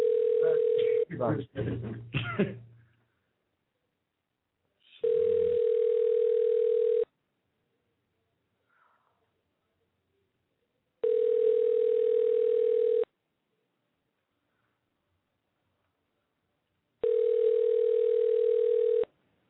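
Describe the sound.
A phone's ringback tone as a call is placed to a house: three steady two-second buzzing rings separated by long silent gaps, clear, following a brief burst of speech at the start.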